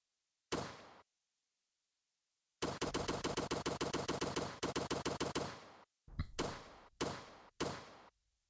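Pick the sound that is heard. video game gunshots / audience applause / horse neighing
video game gunshots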